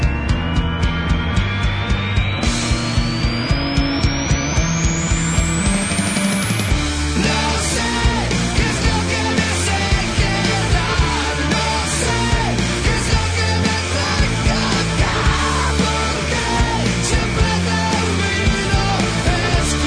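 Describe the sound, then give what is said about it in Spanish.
A loud rock song, a track from the band's latest album, plays with a full band driving a steady, pounding beat; a rising sweeping tone climbs over the first few seconds before the dense guitars and drums carry on. “un tema de su último disco …”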